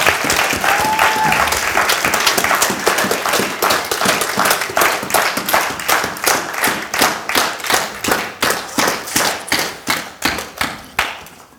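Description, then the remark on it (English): An audience at a weekend event applauds the organizers loudly, a dense wash of clapping with a brief whistle early on, gradually thinning out into scattered individual claps toward the end. “But I've had a really enjoyable weekend so far, and I think if you have, that we should give the organizers of this event a big round of applause.”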